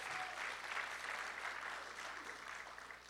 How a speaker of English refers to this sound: Any military veterans here today? What branch, brother? Army. Oh, he was in the real. Give him a round of applause, Army.